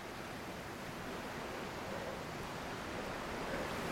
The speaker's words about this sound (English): The beach and the ocean are empty as the light starts to fade.